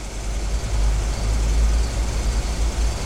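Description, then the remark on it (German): A Jaguar luxury car's engine rumbles steadily with a deep, constant drone as the car rolls slowly or idles after pulling up at a grocery store shortly before midnight, with no voices. “Kurz vor Mitternacht fuhr Bob mit dem Wagen bei dem Lebensmittelladen von Torres vor.”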